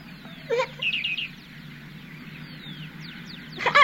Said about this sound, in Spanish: ¡Ay, claro! Son los pajaritos que anidan aquí. Yo vi a sus padres buscando comida.